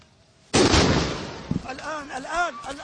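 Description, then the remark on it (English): A sudden, loud explosion from a second Israeli military strike on a hospital bursts in during rescue operations after a quiet moment, its roar slowly fading as agitated voices cry out and shout over the aftermath. “A second explosion suddenly occurred during the rescue operations.”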